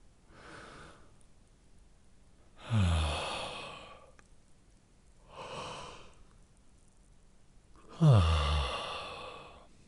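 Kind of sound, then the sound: human body sound, yawning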